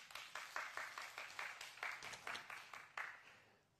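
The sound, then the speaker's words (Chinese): An audience applauds together to give glory to God, many hands clapping in a dense, steady patter with sharper bursts throughout, moderate in volume, with no voices over it. “阿们的拍手把荣耀给神。”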